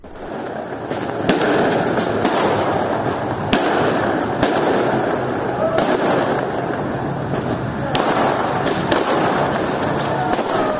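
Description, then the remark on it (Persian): Fireworks in the city of Saqqez, Iran, bang repeatedly over a continuous roar of crackling, with sharp pops landing at irregular intervals and a dense, loud wash of noise throughout, no voices standing out. “این صدای آتشبازی در شهر سقز بود، زادگاه مهسا جینا امینی، که دیروز منتشر شد قبل از اینکه خبر مرگ ابراهیم رئیسی، رئیس جمهور ایران، تایید بشه.”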